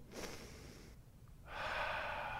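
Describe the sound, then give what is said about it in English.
A person imitates sniffing: a quick breathy sniff, a short pause, then a long, loud, satisfied inhale through the nose, with no talking. “And that God, when he sniffs our lives, when we do that anointing check, and God sniffs our lives, that God would go.”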